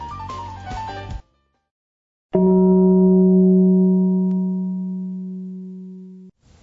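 Radio Beograd's time-signal gong marks exactly 7 o'clock before the news, striking once, a deep resonant tone with steady harmonics that rings out and slowly fades over about four seconds, following a short jingle-like musical phrase and a pause.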